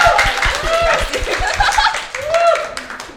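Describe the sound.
Rapid, irregular clapping from a small group runs throughout, with laughter and cheerful voices mixed in over the claps.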